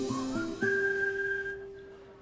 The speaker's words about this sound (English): Every time you hear that whistle, you know what's going on.